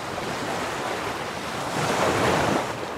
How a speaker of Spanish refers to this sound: Estas son las olas del Golfo Pérsico.